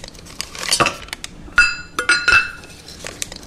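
Four squares of unsweetened baker's chocolate drop one by one into a metal saucepan in an apartment kitchen in Brooklyn Heights, giving about four sharp clinks, each with a brief bright metallic ring, with no one talking.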